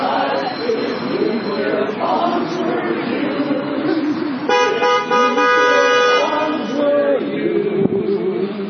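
Car horns honk over busy street traffic where people are assembling, with one long, loud blast standing out midway through and shorter toots around it, amid a steady outdoor din and murmuring crowd voices.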